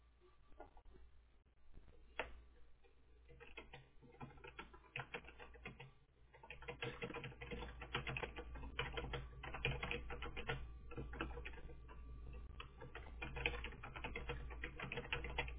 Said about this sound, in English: Are you typing that I'm being crazy? No. What are you typing?